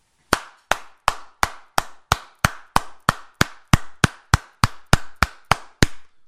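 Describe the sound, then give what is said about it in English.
A steady run of about sixteen loud, sharp hand claps at an even pace, each one ringing out with a noticeable reverberant tail. “assertive, powerful, exciting, and reverberating clap. That's the clap you want, folks.”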